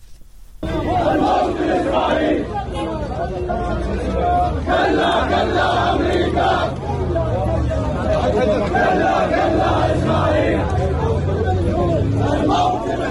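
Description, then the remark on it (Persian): A large protest crowd in Iraq on a Saturday chants slogans against America, Israel, Saudi Arabia and Iraqi Prime Minister Mustafa al-Kadhimi, voices rising and falling in loud, rhythmic unison in repeated phrases over a steady roar of massed shouting that continues throughout. “به گزارش خبرنگار رادیو فردا از عراق، در تظاهرات امروز شنبه شعارهای علیه آمریکا، اسرائیل، عربستان و مصطفی الکاظمی نخست وزیر عراق سر داده شد.”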